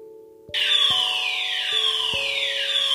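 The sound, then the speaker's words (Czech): After a brief moment of quiet, the fire alarm of a grammar school in Wiesentheid blares in, loud and harsh, with repeating downward-sweeping electronic tones over a steady buzzing drone that continues without pause. “To byly 3 vteřiny požárního alarmu na gymnáziu LSH Wiesentheid.”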